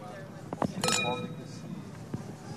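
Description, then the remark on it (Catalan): Amphora-aged wine is poured into glasses at a fair stand in Móra d'Ebre, with a few sharp glassy clinks and a brief bright ring as the bottle meets the rims, over a murmur of background voices. “Escolteu, com estem posant aquest cos d'àmfora a les copes d'aquest estand de la Fira de Ràdio Móra d'Ebre”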